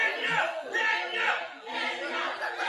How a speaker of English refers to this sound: Some in the crowd, though, yelled Mr. Obama should be sent to Kenya.